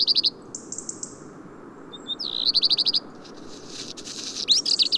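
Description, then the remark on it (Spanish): A black redstart, perched motionless on a rocky ledge, calls in short bursts of rapid, high, metallic chirps, repeated several times over a steady outdoor hiss; no one speaks. “Más a la izquierda, un colirrojo tizón permanece inmóvil sobre un saliente rocoso, uno de sus posaderos preferidos y en el que puede pasar horas sin inmutarse esperando a divisar su próxima comida.”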